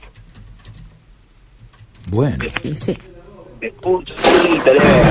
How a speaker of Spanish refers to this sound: ¿Cómo amanece la ciudad? Con lluvia, está lloviendo ahora. A ver si puedo escuchar a través del techo del móvil.